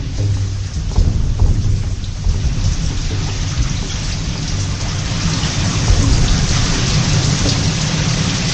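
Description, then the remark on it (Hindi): Heavy rain pours down steadily in a dense, loud wash, flooding all of Braj, with deep rumbles of thunder rolling underneath throughout. No voices, just the continuous roar of a thunderstorm. “हम कल्पना ही कर सकते कितनी वर्षा हो रही है।”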